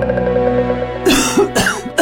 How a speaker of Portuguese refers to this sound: Nossa, que tosse, hein?